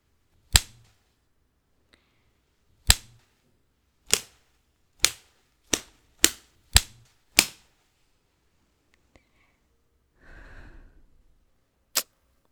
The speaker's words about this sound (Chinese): 这个鞭子不行，用着一点都不趁手。